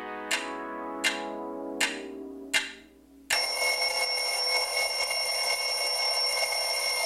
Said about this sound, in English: And with that bell, it marks the end of this episode of Girly So Groovy.